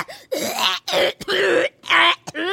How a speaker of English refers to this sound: Suddenly we hear a coughing fit, far worse than any we've heard before.